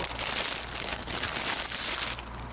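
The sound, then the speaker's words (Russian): A plastic bag of grapes crinkles and rustles steadily for a couple of seconds, fairly loud, over a low background hum with no talking. “Пакетик винограда. $3. Пакетик.”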